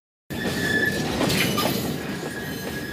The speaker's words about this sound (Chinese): 7月18号下午，一辆满载义乌小商品的火车缓缓驶入宁波舟山港铁路北仑港站，而这批货物刚下火车就被送上了货轮